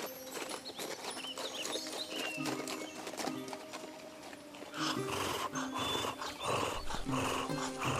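The hooves of a knight's tired horse clip-clop steadily at a walking pace, while a dog barks and growls amid a busy, textured background.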